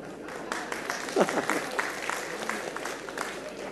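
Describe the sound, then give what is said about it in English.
Men in a small audience applaud steadily for a few seconds, the clapping moderately loud and a bit scattered, with a few voices calling out over it. “Why was it that only the men clapped there?”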